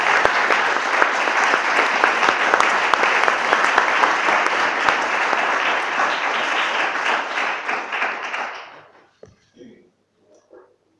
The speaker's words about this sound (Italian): Vi ringrazio. Posso chiedere un applauso